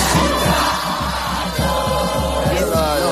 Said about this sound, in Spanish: ¡Estamos en el obelisco! 4 millones de personas en la calle